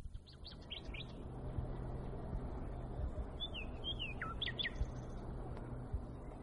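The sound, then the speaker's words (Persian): A nightingale's bright, whistled song rings out in short bursts of rising and falling notes, a few phrases near the start and more around the middle, over a steady low background rumble. “بین این پرنده ها یه بلبل خوش صدایی بود که وقتی روی شاخه یه درختی می نشست و آواز می خوند همه جا ساکت می شد.”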